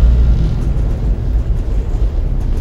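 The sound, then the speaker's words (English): A loud, continuous roar of rocket engines at boost ignition and liftoff of the USS Hope, all engines running, a deep rumbling thunder with crackling texture that stays steady and heavy throughout, with no voices over it. “Boost ignition. All engines running.”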